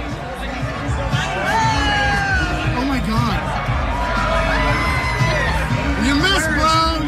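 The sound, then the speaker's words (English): A golf crowd standing around on the 17th green watching a naked man murmurs and chatters outdoors, with overlapping voices, scattered calls and a few whoops rising above steady, dense background babble throughout. “This is a little bit of the crowd that's just standing around, again, on the 17th green, just watching this naked dude.”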